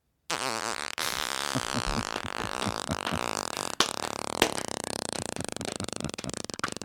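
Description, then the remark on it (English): A single long, drawn-out mouth-made imitation fart noise, buzzy and sputtering, holds steady for about six seconds with no talking, wavering slightly in pitch before cutting off abruptly. “And this was the fart noise I was using for Pavarotti because it was the length.”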